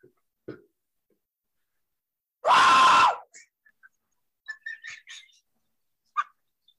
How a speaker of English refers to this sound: Why don't we just let out a big scream?